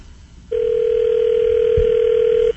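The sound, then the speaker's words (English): A telephone dial tone starts after a short quiet moment and holds as a steady, unbroken electronic hum for about two seconds, with a faint low thump partway through. “All right, so dial the phone up. Let's call.”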